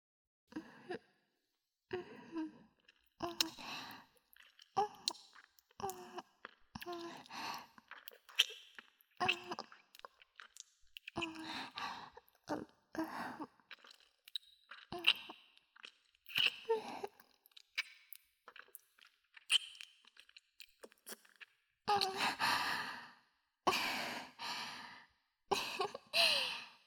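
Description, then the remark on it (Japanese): A long run of wet kissing sounds: soft smacks and lip clicks repeated at an uneven pace, mixed with breathy sighs, with longer breathy bursts near the end. “最後にキスしようか。”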